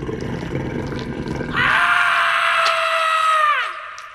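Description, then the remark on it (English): A 'man eaten by dog' sound effect: rough, low snarling and growling, then a loud, sustained high-pitched scream that holds for about two seconds before sliding down and fading out. “So again, taking the same sound effect, and this one is called Man Eaten by Dog.”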